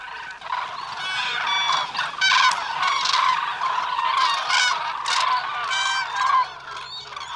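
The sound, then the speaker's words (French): A dense, loud chorus of many cranes calling at once, overlapping honking and trumpeting cries that continue without pause, with no speech. “Le brouhaha de croassement que font de nombreuses grues peut s'entendre de très loin.”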